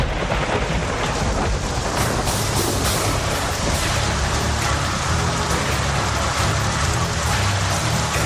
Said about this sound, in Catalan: Aquí plou.